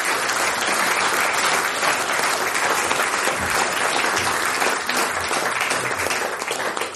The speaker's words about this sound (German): Danke, das ist euer Applaus. Sehr schön. Danke.